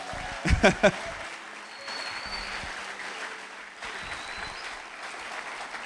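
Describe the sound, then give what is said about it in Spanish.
An audience applauds steadily for the speaker's pastors, a dense wash of many hands clapping with a few loud, sharp claps at the start; the clapping continues at an even level throughout without voices. “De paso, quiero que le den un fuerte aplauso a mis pastores que vienen conmigo.”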